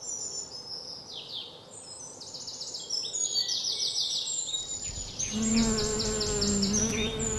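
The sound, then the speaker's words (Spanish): Bees hum steadily while pollinating and circling yellow flowers, a soft continuous buzz growing louder toward the end, with bright bird chirps scattered above it. No one speaks. “Un suave murmullo de abejas polinizando y rodeando todas estas flores amarillas.”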